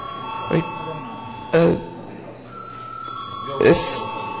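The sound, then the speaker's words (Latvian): A parliamentary chamber bell rings steadily throughout, a sustained electric tone called for by the chair before debate on a draft decision approving Latvia's delegation to the NATO Parliamentary Assembly, with a few brief bursts of muffled voices or shuffling noise. “Lūdzu zvanu.”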